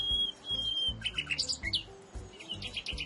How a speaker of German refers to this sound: Vögel locken mit ihrem Gesang Partner an und verteidigen ihr Revier. Und so klingt das bei einer Nachtigall.